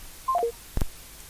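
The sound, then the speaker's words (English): A quick descending run of three electronic beeps, like a telephone signalling a dropped line, followed by a sharp click as a caller's phone line cuts off during a call-in. No one speaks. “The line is off, and of course, we got the message.”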